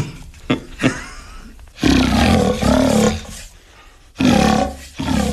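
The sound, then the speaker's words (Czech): A large wooden trumpet deer call blown to imitate a fallow deer's groan: a long, loud, raspy roar followed by shorter guttural bursts, with a few brief grunts before it and no talking. “Řevnice na jeleny, dá se přes ní udělat i rochající Daněk třeba.”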